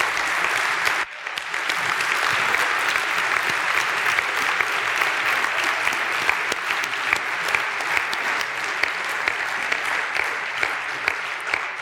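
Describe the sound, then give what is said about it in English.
A large audience claps steadily and fairly loudly for about twelve seconds for the standing faculty, a dense, sustained wash of many hands with no one speaking over it. “And I think they deserve a big round of applause, okay?”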